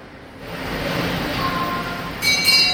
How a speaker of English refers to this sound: So I'm in the shopping mall now. Half of it's still basically just a building site. But in front of me, there's a kids' train. No one on it, and the driver is just doing endless loops around the mall.